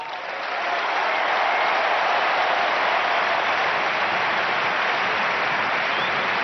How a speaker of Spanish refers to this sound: Ovación del Camp Nou para Andrés Iniesta, que con lágrimas en los ojos continuaba su discurso ante la afición del Barça, que no le verá más con esa camiseta.